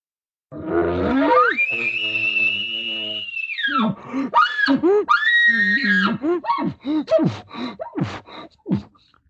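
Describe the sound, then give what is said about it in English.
A human voice imitates a bull elk bugle, lengthened out like an irritated bull yelling back at another bull: a long, loud, sustained high-pitched whistle, followed by a rapid run of rough, breathy grunts and chuckles that trail off. “But when he starts talking to bulls and he's getting irritated and annoyed and he's feeling the emotion, he's starting to yell and scream back at this bull. You'll hear him lengthen it out.”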